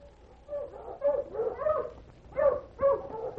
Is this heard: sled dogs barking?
yes